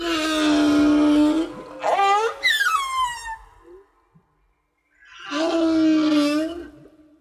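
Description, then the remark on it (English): Strained, drawn-out moaning from a person working under a car jacked up on stands, eerily whale-like: a long sustained groan, then a high cry sliding downward, a brief silence, and another wavering moan. “They must have seen the car jacked up on stands, and what drew them close were the extraterrestrial wildebeest whale moaning sounds coming from under the car.”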